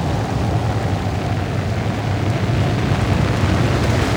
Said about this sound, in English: Now it's raining.